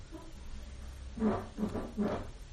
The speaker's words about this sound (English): Sorry if you could hear that, it's the cat flap. Max just came in for his breakfast.